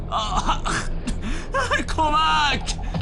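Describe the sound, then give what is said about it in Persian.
Shaky whimpering and crying, with broken, wavering vocal bursts and sharp gasping breaths between them and no clear words. “سب کن داری گریه میکنی؟”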